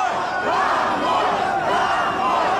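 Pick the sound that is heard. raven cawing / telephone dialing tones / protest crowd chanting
protest crowd chanting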